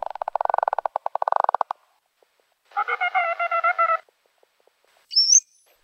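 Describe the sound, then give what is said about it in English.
Bottlenose dolphin sounds: a fast buzzing train of echolocation clicks, then a pause, a rough pulsed squawk with layered tones, and finally a brief high rising whistle. “Okay, now let's listen to the bottlenose dolphin. It also starts with echolocation, and then the other two registers.”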